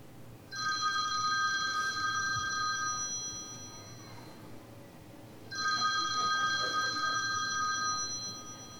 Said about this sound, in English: Again, that's a typical wake-up call that you can request from a hotel desk. It may or may not have your wife's voice on it. Mine does.